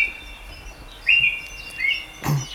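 A thrush sings clear, fluting phrases in a few short bursts over quiet outdoor background, moderately loud, with a brief rustle near the end and no talking.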